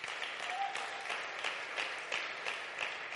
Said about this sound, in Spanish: Dale un fuerte aplauso al Rey.